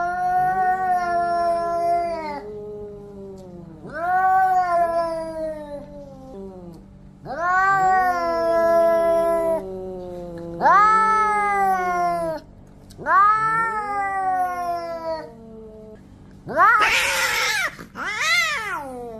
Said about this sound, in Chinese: 发出喵呜的低吼或者是尖锐的长音，这代表是向对方下最后通牒，比较常发生在两只猫咪对峙的时候。